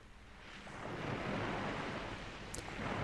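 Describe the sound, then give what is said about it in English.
Ocean waves wash in a steady, broad roar of surf that slowly swells and stays full, with a soft wind-like hiss and no voices. “Inhale, hear nothing but the ocean waves, see nothing.”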